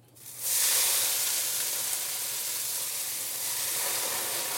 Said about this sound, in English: Hopefully this will start to crackle a little bit soon. There we go. Great.